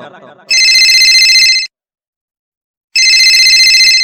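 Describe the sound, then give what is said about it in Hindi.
A phone rings during an outgoing call in two loud, steady bursts separated by a pause of about a second, a bright warbling tone, with a brief murmur of voices just before the first ring. “अरे छोड़ा रे, तू बड़ी बकवास कर रहा है, फोन में लगाओ तो बुझी।”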